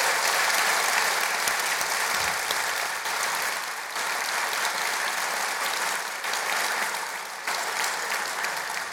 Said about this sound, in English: You've already given your round of applause, so thank you so much for coming.